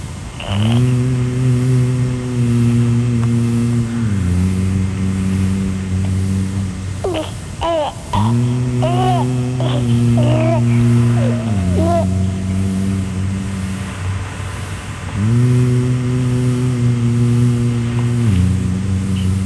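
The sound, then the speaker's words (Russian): A radio-controlled toy car's small electric motor whines steadily, its pitch stepping up and down as it revs in bursts, with brief higher chirping sounds in the middle, fairly loud throughout. “С родителями я иду в зоопарк, радиоуправляемую машину получил я в дар к дверям зоопарка. Несусь я стрелой”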